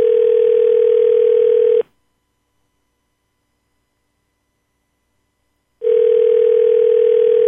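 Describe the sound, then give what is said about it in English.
An outgoing phone call ringing on the line: a steady electronic ring tone sounds for about two seconds, falls silent for four, then starts again, clear and loud with no voices. “You never know if they're going to answer the phone.”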